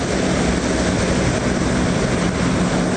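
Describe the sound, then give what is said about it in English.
The turboprop engines of a C-130 firefighting aircraft fitted with a Modular Airborne Firefighting System, flying from Charlotte, North Carolina, toward Oregon, drone loudly and steadily, a dense, unbroken roar with a low throbbing hum underneath, with no voices. “We have 8 C-130s in the country.”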